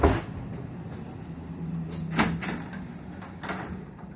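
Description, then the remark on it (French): A broken train sliding door's mechanism clunks several times as the green button is pressed to open it, with sharp knocks and a brief hiss, over a steady low engine rumble inside the carriage. “La porte est cassée, il faut que j'appuie sur le bouton vert.”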